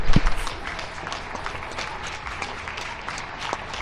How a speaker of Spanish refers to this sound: España sale a aplaudir. Ronda de sonidos desde el micrófono de Eri Frade en Madrid.